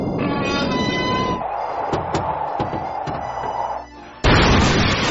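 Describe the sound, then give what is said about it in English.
A bomb placed inside a cow explodes: a few sharp cracks and thuds over a steady whining tone, then a sudden loud roaring blast that fills the end. “The bomb I put in the cow!”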